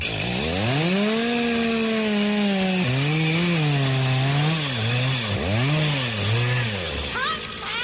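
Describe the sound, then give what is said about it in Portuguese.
A chainsaw engine runs loud, its pitch rising and falling through several revs before it cuts out near the end, with a continuous buzzing drone throughout. “Motosserra Steel, maestro!”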